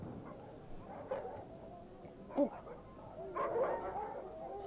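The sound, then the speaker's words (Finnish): A dog barks a few times, the short muffled yaps spaced irregularly over a low background rumble, with a faint whimpering quality between barks. “Koiran haukuntaa.”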